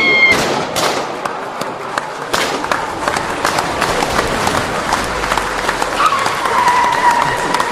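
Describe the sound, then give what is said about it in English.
Loud, dense gunfire crackles without pause, a rapid jumble of sharp overlapping pops and bangs filling the whole stretch, with a thin whistling tone rising briefly near the end. “What's all this shooting and stuff? What is this? Some kind of gunfire?”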